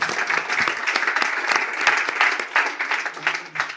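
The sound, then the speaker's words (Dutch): A crowd applauds steadily, dense overlapping claps forming a continuous bright patter that holds at a fairly even level for a few seconds, with no one speaking over it. “Een applaus.”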